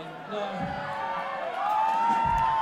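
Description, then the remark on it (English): A crowd cheers and shouts together in a steady, loud swell lasting a few seconds, many voices overlapping, with a sharp whistle rising toward the end. “They cheer because they have a bet going.”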